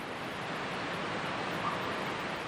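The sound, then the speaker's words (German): A steady, unbroken rush of falling water from a waterfall on the other side of a small lake roars evenly throughout, dense and full, with no voices or other sounds breaking through. “Langsam näherst du dich dem Wasserfall auf der anderen Seite des kleinen Sees.”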